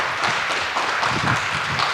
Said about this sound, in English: Everyone give him a big round of applause.